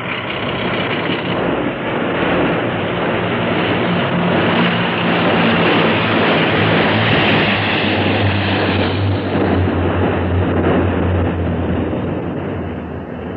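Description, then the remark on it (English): The engine of the Johnson Cruiser boat drones loudly and steadily with a thick, rumbling roar as the boat runs past a submarine without slowing, its low hum shifting in pitch partway through as it passes by, with no voices. “No, the boat is passing us.”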